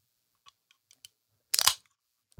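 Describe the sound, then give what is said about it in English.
A Red Bull can is cracked open: a few faint taps and clicks at the tab, then a sharp pop followed by a brief bright fizzing hiss, ending with a soft low thump. “Pop open a Red that Bull.”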